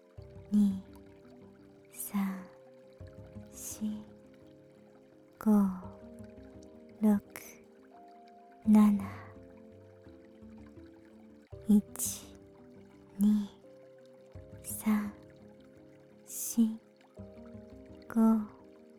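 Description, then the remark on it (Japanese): Soft splashes of gentle ocean waves lapping at a steady, unhurried pace, each brief wash rising and falling over a calm, sustained musical drone in the background. “寄せては返す波と同じ自然なリズムで息をする。”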